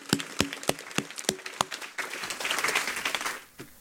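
A single person claps slowly about six times in an even rhythm, then the sound turns into a denser wash of applause from several hands that fades out, ending with one last clap.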